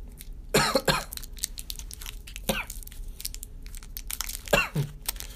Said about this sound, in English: My back hurts from coughing, yo. Oh, man. I'm going to lose a lung.